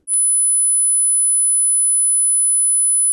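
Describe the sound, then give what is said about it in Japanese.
A steady, very high-pitched pure tone begins with a brief click and holds at an even, unchanging level for about three seconds, with no other sounds and no talking. “それでは次に1万ヘルツの音です。”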